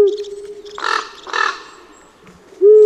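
Two harsh, hoarse croaks from a common raven, one right after the other, loud, with a steady low hum in the background before and after.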